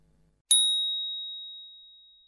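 A single bright bell chime strikes sharply, then its clear high tone rings on and slowly fades over about two seconds, heard alone with no talking.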